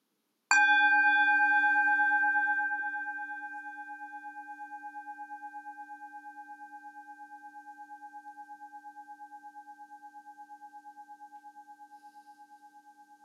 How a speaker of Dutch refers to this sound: Laat de gong je meenemen naar een ontspannen houding.